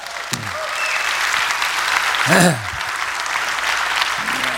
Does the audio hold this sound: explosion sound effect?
no